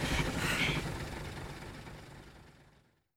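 A bus engine idles with a low, steady rumble and broad mechanical hiss, loudest at the start before gradually fading away into silence after about three seconds.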